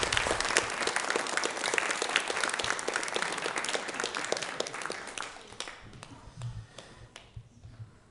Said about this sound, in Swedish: En stor applåd